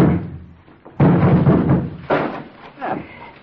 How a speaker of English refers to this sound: Barn door's hooked on the inside. Somebody's in there. The wood's rotten. Let's break it down.